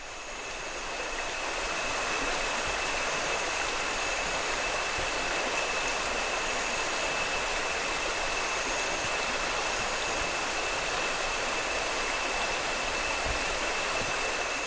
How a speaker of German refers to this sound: Ein paar Stunden später stoßen wir auf einen Fluss.